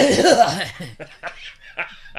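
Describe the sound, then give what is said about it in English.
A voice imitates a gruff old man's cough: a throaty, voiced burst followed by several short, raspy hacks at uneven intervals, fairly loud, with a laughing quality. “I caught myself the other day having an old man cough. Did you? And I realized that... Can you reprise it for us now?”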